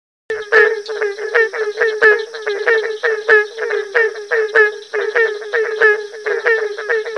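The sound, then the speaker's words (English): A dense chorus of barking tree frogs, many hollow, bark-like calls overlapping in a steady rapid rhythm, loud, with a constant high insect-like drone underneath and no talking. “Groups of barking tree frogs can sound like a pack of beagles on a fox hunt when calling.”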